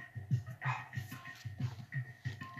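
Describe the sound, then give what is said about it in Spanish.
A small female pet dog named Shania, in the background, makes a quick, steady run of short, low-pitched huffs and whimpers, about three per second, fairly soft and with no voices over them. “Esa que escuchan de fondo es mi perrita Shania, que está muy feliz porque ya va a cenar.”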